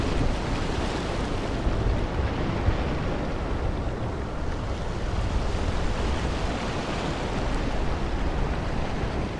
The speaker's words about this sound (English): And one of the joys of sitting on the boat to, the boat from Tallinn to Helsinki is you never know who you're going to bump into.